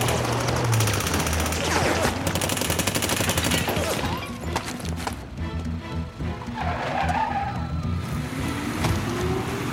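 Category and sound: impact, gunfire volley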